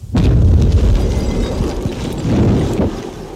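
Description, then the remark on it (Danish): A loud explosive charge set off by a detonator goes off with a sudden blast, followed by a deep, rolling rumble that swells again before fading. Nobody speaks. “Og detonatoren udvikler noget varme, som får den her til at brænde med en stor, stor hastighed, så det virker som eksplosion.”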